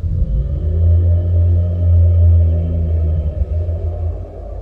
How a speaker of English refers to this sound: At that moment, a chilling thunderclap echoed through the place.